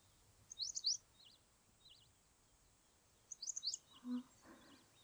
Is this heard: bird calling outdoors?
yes